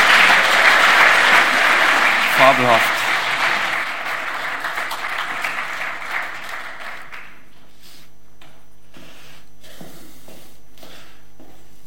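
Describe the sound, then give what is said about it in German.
An audience claps loudly and steadily for the young people, the applause thinning out and fading away after about seven seconds, followed by quiet with a brief spoken word. “Ich denke, die Jugend hat einen Applaus verdient.”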